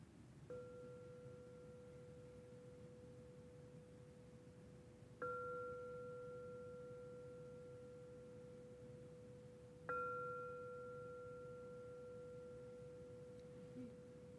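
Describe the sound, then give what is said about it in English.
A meditation bell is struck three times at slow, even intervals, signaling the end of a sitting meditation, each ring a pure, steady mid-pitched tone that hangs in the air and slowly fades, with no talking. “So see about being with your breath in the body and allowing the sound of the bell to arise and fade away.”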